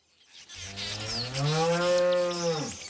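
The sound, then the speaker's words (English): A single drawn-out moo from a Jersey cow on Weleda Dairy Farm, a free-range dairy farm, fairly loud, rising slightly in pitch before trailing off at the end, with no voices and only faint background noise. “She doesn't give her Jersey cows any growth stimulants or antibiotics and never sprays her land with pesticides.”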